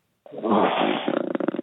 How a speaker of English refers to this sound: Oh my God, with the breathing.